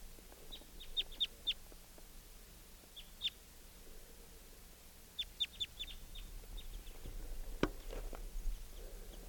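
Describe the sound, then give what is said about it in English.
A male bird gives quick bursts of high, sharp chitter notes in clusters of three or four, with pauses between, over a quiet outdoor background with faint low rumble. “And he may come down. Gave a chitter note.”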